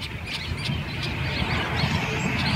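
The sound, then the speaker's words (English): A tricolored blackbird nesting colony at a farm in Northern California, recorded earlier this year, calls in a dense, continuous chorus of harsh, buzzy overlapping calls, with sharper squawks cutting through repeatedly over a steady low rumble. “Tricolored blackbirds have experienced an alarming decline in recent years.”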